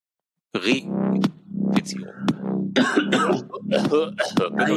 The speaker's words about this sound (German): Oh, er hustet wieder.